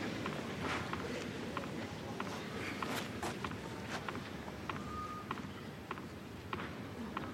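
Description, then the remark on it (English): A tennis ball bounces repeatedly on a clay court before a serve in a loose, unhurried rhythm, each bounce a crisp thud over a steady murmur of background noise. “Bouncing comes to an end.”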